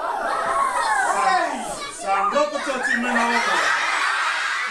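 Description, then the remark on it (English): Schoolchildren at a Wildlife Conservation Society puppet show in Fiji scream and squeal together right after the Joji Gobi puppet encounters a barracuda: many overlapping high-pitched voices with bits of laughter, loud and sustained through the whole stretch with a brief dip midway. “Are you sure it's just not them screaming because there's a puppet?”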